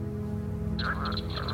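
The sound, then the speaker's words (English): A northern leopard frog (Rana pipiens) gives its mating call: raspy, pulsing croaks start midway and continue in a quick, uneven series over a steady low hum, clear. “Frog, Ranipipiens. This is its mating call.”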